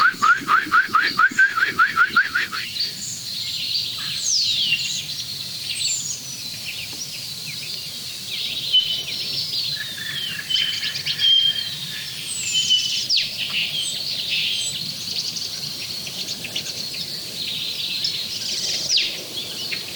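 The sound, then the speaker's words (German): A starling pours out a fast, continuous stream of whistles, chirps and trills, imitating the wild mating call of a black woodpecker, with a rapid rattling burst at the start, clear with no speech. “Da kommt der wilde Paarungsruf des Schwarzbeches durch.”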